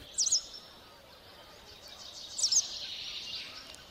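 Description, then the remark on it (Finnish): A white wagtail twitters in two short bursts of high, quick chirps, one near the start and one later. The calls are fairly faint over a steady, airy outdoor background with no talking. “vielä tehkää joku loppumaalailu tähän västäräkin tirskuttelun päälle.”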